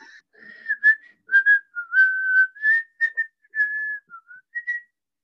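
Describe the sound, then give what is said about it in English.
An air conditioner in a home in Lahore gives off a loud, shrill whistle that wavers slightly in pitch, sounding in a string of uneven bursts with short gaps, alone without any voices. “My AC was just screaming.”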